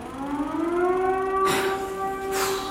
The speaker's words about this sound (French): Coupez, coupez, coupez! Tout le monde aux abris, on reprend dès que possible. Pas vrai, c'est pas vrai. La troisième alerte en deux jours.